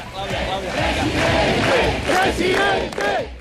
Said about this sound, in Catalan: Una manifestació animava ovacions i aplaudiments a favor d'Alberto Núñez Feijóo al Temple de Devot a Madrid. La concentració ha comptat amb una gran quantitat d'assistents que mostraven banderes d'Espanya